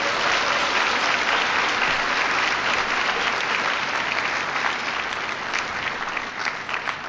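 Steady, sustained audience applause in Luang Prabang for an introduction given before a speech, a dense wash of many hands clapping at a constant loud level for several seconds, with individual claps becoming slightly more distinct toward the end.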